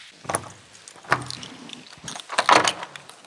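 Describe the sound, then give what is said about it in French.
A heavy old church door in the east gallery of a cloister, leading into the Chapelle Saint-Gosbert, creaks and clunks open in a few separate bursts, with a scraping, rattling mechanism and a louder thud near the end, with no talking. “Et là s'ouvre une porte que l'on va ouvrir.”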